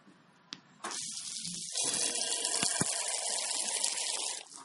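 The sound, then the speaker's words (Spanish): Cider splashes steadily into a small glass at a cider house (sidrería) during txotx season, a bright, hissing pour that starts abruptly after a small click and holds a sustained fizzing, foamy rush for several seconds before cutting off. Only a little is poured, leaving the glass foamy. “Entonces se queda así todo espumoso el vasito en estos momentos y ya de un trago, ¿eh?”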